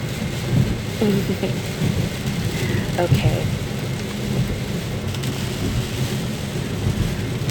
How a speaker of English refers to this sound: It's a rainy day, so whatever you say, sweetheart. Okay, it's really coming down.